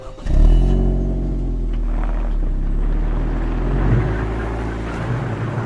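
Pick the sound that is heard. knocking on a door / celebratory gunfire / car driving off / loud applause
car driving off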